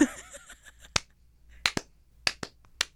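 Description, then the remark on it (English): Sparse, slow clapping from two people: about six sharp, crisp claps at an uneven pace, some landing in quick pairs, following a brief murmur of voice at the start. “Slow clap. Two people slow so clapping is so pathetic.”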